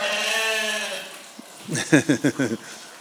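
lambs bleating

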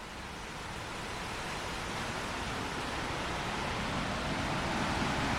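rushing river water

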